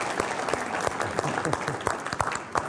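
An audience applauds steadily, with many hands producing a dense, even wash of clapping and scattered sharper claps standing out. The applause stays fairly loud for the whole few seconds.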